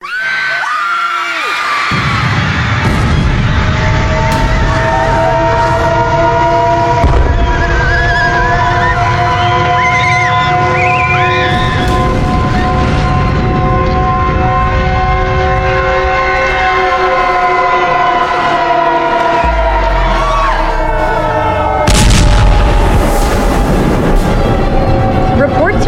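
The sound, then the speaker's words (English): A loud, chaotic scene of a globe of meteors crashing and destroying skyscrapers, homes and businesses in the French Quarter of New Orleans: a continuous low rumble with wailing, wavering siren tones layered above, and a heavy crash bursting out near the end. “Globe of meteors crashing and destroying skyscrapers, homes, and businesses indiscriminately.”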